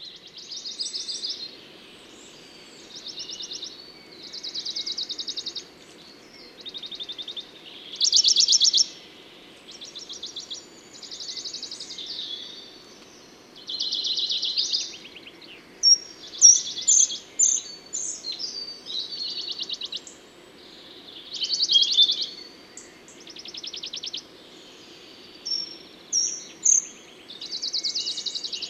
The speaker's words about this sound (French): Je reviens sur les pouillots de Bonelli qui ont l'air de se rapprocher à nouveau.